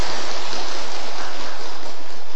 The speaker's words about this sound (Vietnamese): chúng ta phải tán thán công đức của các vị trưởng lão ở đây đi, cho một tràng pháo tay tán thán ạ.